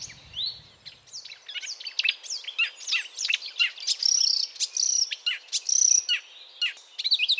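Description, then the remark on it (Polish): A marsh warbler sings a rapid, nonstop medley of varied chirps, trills and whistles borrowed from other birds, bright, with no voices. “badania tutaj wykazują też, że łozówki mają swoje ulubione dźwięki”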